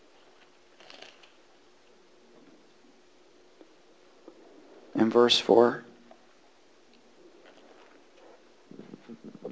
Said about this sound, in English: Oh, hallelujah. It's good to hear the pages turning on a Tuesday night.